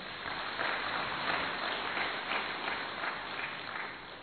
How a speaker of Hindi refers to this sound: Yes, very good. अपने लिए जोर से तालियां बजाओ।